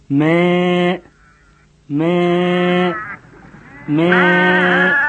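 Three loud, drawn-out sheep bleats, each about a second long with a wavering, nasal tone, separated by short pauses with faint background noise.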